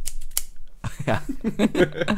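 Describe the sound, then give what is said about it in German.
A voice imitates scissors snipping: a few crisp, quick snipping clicks, followed by a longer run of rhythmic voiced snip-snap sounds made with the mouth. “Wir machen Scherengeräusch. Warte. Schnippschnapp. Schnippschnapp.”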